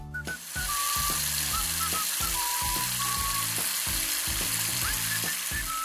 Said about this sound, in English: is in the bathroom, brushing her teeth, with the faucet still running.